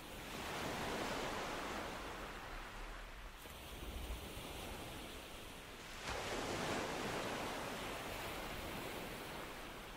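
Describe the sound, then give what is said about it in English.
Ocean waves wash in and recede in a steady, broad roar of surf, swelling and easing across a few cycles with no voices present. “You drift deeper into relaxation, feeling the calming ebb and flow of the ocean bring healing and serenity to you.”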